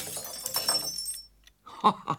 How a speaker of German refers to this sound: Ah, da ist ja noch ein Glas kaputt. Zwar kein ganz neuer Einfall von Ihrem Pumuckl, aber ich ersetze auch das.